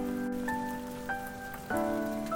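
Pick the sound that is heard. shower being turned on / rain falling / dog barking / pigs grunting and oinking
rain falling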